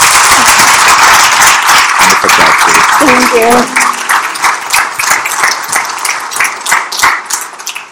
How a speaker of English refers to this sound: Everyone give her a round of applause, please.